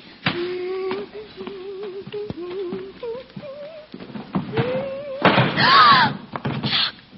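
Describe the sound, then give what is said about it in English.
The door of a treasure cupboard creaks slowly open as someone dusting opens it, its hinge giving a long series of wavering squeaks, followed by a louder rattling bump near the end. No one speaks. “Now it so happened that one day while Greta was dusting, she opened the door to the treasure cupboard.”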